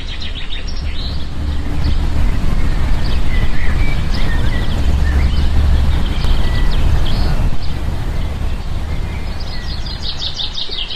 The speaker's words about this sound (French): Alors il me semble avoir entendu des camions, une voiture, un brinque-ballet dans la rue de la Bellemire.